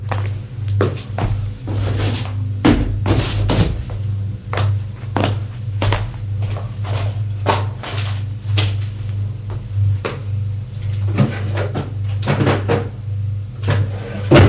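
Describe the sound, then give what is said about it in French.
Someone puts away newly bought sheets, a blanket, plates, cutlery, saucepans, food and toiletries in cupboards, with repeated knocks, thunks and clatters of doors and items being set down at an irregular pace over a steady low hum. “Il range le tout.”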